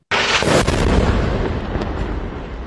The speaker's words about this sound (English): Now she and her children are trapped as fighting between Israel and Hezbollah intensifies, the sound of explosions almost constant.